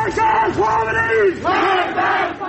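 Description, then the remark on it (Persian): A crowd gathered at a memorial for Erfan Zamani, killed in the 13 Aban protests, chants slogans in unison, many voices rising and falling together in rhythmic, shouted phrases that stay loud and steady throughout. “مردمی که برای یادبود عرفان زمانی از کشته شدگان اعتراضهای 13 آبان تجمع کرده بودند و شعار می‌دادند، با سرکوب نیروهای امنیتی روبرو شدند.”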